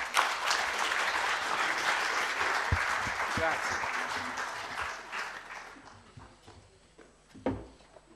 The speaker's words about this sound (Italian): Facciamo un applauso.